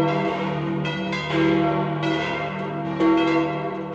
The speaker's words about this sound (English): at 6:05 when the bells of St. Peter's rang out festively for all of Rome to hear.